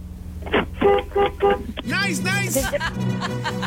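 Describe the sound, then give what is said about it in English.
A car horn honks three times in quick, short, evenly spaced, buzzy blasts as a timed 60-second task, heard thinly as if over a phone line, followed by voices talking. “All right, honk your horn 3 times.”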